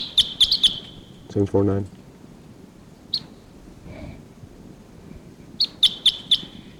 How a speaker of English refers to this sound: Sorry, there's perhaps a lone wild bird here at Barfoot Park calling from the trees. It sounds like a type 6. Wild bird here.